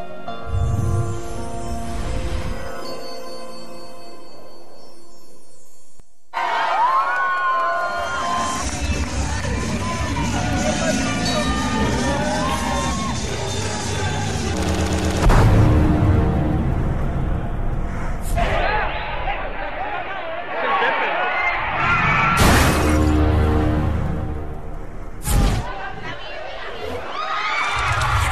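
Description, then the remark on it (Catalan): In a film scene at a wedding, a loud, chaotic crowd screams and shouts over one another, with splashing liquid and sudden bangs mixed into the din. The uproar is continuous, with a few brief lulls. “Líquids, crits, què és això, un casament?”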